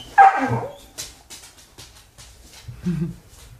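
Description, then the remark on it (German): The dog Pinu lets out a loud bark during training, followed by a string of shorter yips and whiny whimpers, then another strained bark-like whine near the end, with no one speaking. “Ja, wir haben gerade Erziehung, weil die liebe Pinu gerade mal wieder meint, machen zu wollen, was sie will.”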